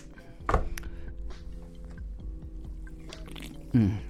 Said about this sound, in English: I strain the raw water out with some napkins. I just pour it. You just pour it through the napkin a couple times, and the salt comes out.